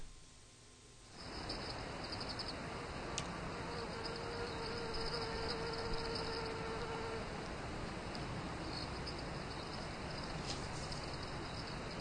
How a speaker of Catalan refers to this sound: aquesta vegada sí que sentia algun ocellet i fins i tot doncs la típica mosca